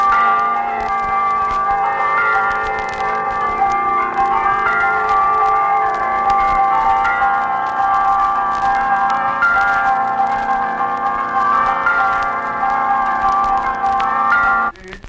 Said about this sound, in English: They are called by the tolling of one of the bells that burst forth with dissonant clamor on Sunday morning when the bell ringer pulls the ropes with a lusty fervor.